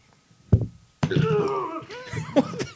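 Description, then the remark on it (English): A short thump, then a loud, drawn-out gurgling burp with a croaky, wavering pitch, followed by a couple of brief throaty, retching-like noises. “No, I had like a weird burp pickup thing.”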